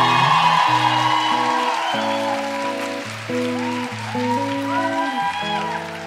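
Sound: audience applause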